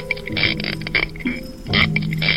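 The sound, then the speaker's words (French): A spiny lobster (Palinuridae) gives a series of harsh, creaky rasps, several grating bursts of buzzing stridulation, fairly loud and uneven in rhythm, with no one speaking. “Pas si bête, une chronique sur le monde sonore animal. Aujourd'hui, la langouste.”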